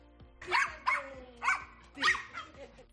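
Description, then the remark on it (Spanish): A dog, Bamba, barks four times in a steady, spaced rhythm, each bark loud with a sharp onset, on her morning walk in the plaza de Vigo in A Coruña, while a faint tonal background hum runs underneath. “Así, con esta energía, Bamba pasea todas las mañanas por la plaza de Vigo, donde se encuentra con perros como ella.”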